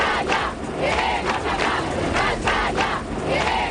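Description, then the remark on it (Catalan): A large protest crowd chants in unison at demonstrations across Spain after terrorists kidnapped Miguel Ángel Blanco, the Ermua councillor, loud and steady, with voices rising together in a regular, repeated rhythm of shouted syllables throughout. “Tal día como hoy se organizaron concentraciones y manifestaciones por todo nuestro país con un grito unánime.”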